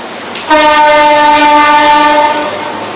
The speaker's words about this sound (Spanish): ¿Tren?